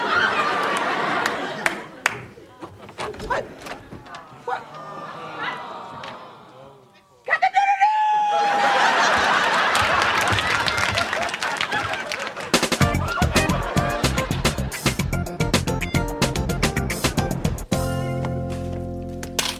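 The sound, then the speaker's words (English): Someone mimics a pigeon's cooing with a short warbling vocal glide, surrounded by lively chatter and snickering laughter from several people, with a busy, crackly noisy stretch toward the end. “Now, could you do a pigeon so I could run you over with my car?”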